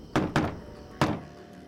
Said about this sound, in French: Le type … essaya d'alerter son ami en frappant à la porte d'une façon particulière.